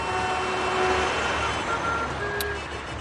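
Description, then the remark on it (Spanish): Hundreds of tractors, arrived from all over Spain, rumble through a street in Madrid in a dense, steady roar of engines, with faint tonal whines or beeps drifting over the traffic and a brief sharp click near the end. “Centenares de tractores llegados de cualquier punto de España han conseguido entrar en Madrid dejando una imagen única.”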